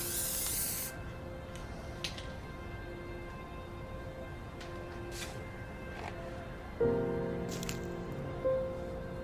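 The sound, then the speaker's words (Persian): A spray paint can hisses in a longer opening burst, followed by several short sprays spaced a few seconds apart over a steady low background hum, as spray paint is used to cover writing on a house wall in an alley. “امیر با اسپری رنگ روی نوشته رو میپوشونه.”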